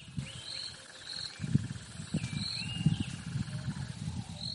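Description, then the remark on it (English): Wildlife ambience from one of the few remaining wetlands near Harare, an area of green grass and a few trees: repeated high bird whistles and a steady insect drone over rumbling low-pitched animal calls, fairly quiet and continuous with no talking. “Those are sounds from one of the few remaining wetlands near Harare.”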